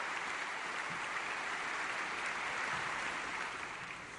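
crowd applauding a speech

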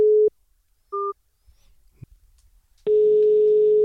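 telephone ringback tone

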